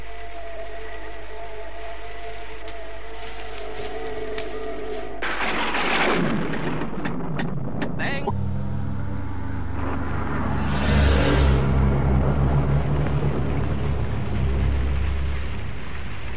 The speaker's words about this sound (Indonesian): Dan angin yang menderu membawa titik-titik air yang halus masuk ke dalam hujan.